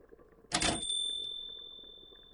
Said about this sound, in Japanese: 唐突に玄関の扉が開き、彼女の声が聞こえた。